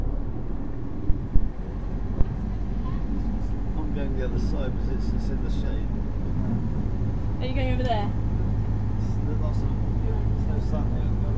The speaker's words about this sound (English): So this is a boat trip from Ross-on-Wye down to Mendiat, isn't it, Mum?